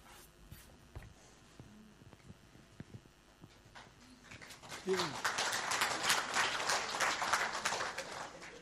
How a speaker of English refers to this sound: I'll let him know you clapped.